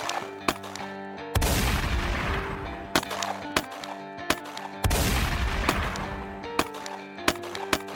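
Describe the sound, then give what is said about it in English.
A gunfight at the back entrance of a bank during a 1970s robbery, between police officer William Remo Cody and Billy Burt, who fires a shotgun: sharp shots crack off irregularly, punctuated by two heavy booming blasts that roar and slowly fade. There is no talking. “But within just minutes, police officer William Remo Cody arrived at the back entrance of the bank and immediately started exchanging gunfire with Billy Burt.”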